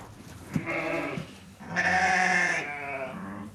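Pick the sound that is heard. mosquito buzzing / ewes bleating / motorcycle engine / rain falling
ewes bleating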